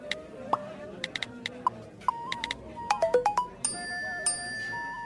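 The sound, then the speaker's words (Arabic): A phone notification chime from the Insurance Authority app: a run of bright, quick electronic pings in a playful pattern, ending on a longer sustained tone, clear over a faint background murmur. “واصلني اشعار من الهيئة، خلني أشوف شو الموضوع.”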